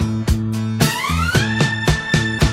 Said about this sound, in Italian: E in mezzo al rumore delle sirene arrivano Adone e Disma dal niente